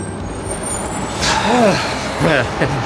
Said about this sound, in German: Ihr Bus hielt auf einem Parkplatz oberhalb der Steilküste und sie stiegen aus.